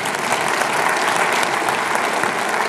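An audience at Emmanuel Bible Church breaks into steady, full applause during a sermon on marriage: a dense wash of many hands clapping at an even loudness throughout, with no voices standing out.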